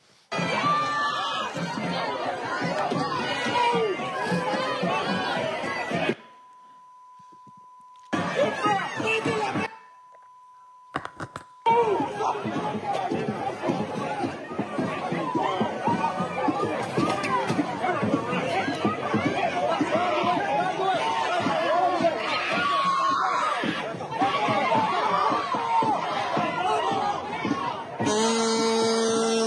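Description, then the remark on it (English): A large, agitated crowd of college students shouts and yells in a continuous roar while attacking a library in Michigan. The din briefly cuts out twice, with a steady electronic beep filling the gaps, then surges back just as loud. “And so they just started attacking the library.”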